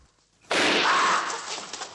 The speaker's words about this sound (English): falls into a stack of boxes and tramples on inflated balloons.